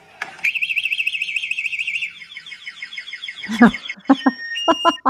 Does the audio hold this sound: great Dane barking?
no